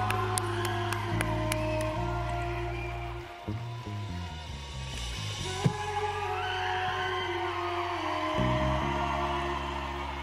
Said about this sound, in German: Ganz viel Liebe, schönen Abend euch. Großer Applaus.